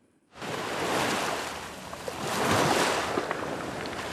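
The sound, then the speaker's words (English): Waves break on the beach at Wimereux on the French coast south of Calais in a loud, continuous roar that swells and recedes twice, with a faint hiss of wind and no voices. “It was from here at Wimereux on the French coast south of Calais that the desperate journey began.”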